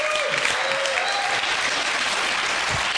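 A crowd applauds steadily, the clapping dense and even throughout with no pauses, forming a loud, continuous wash of hand claps.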